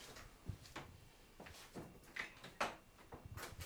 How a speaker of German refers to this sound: Was soll denn das hier mit der Tür immer auf und zu?